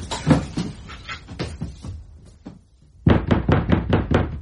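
Someone bangs on a door at night: a run of uneven thumps, a brief lull, then a loud, rapid burst of heavy, evenly spaced blows. No voices are heard.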